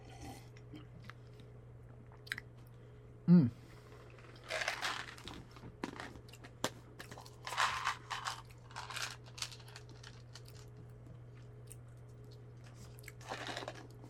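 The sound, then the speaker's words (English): Wet chewing of xylitol gum in irregular bursts, smacking and clicking softly over a steady low hum, with a sharper click early on and no talking. “I'm going to chew some gum now to protect my teeth.”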